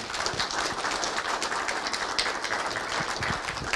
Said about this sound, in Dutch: APPLAUS.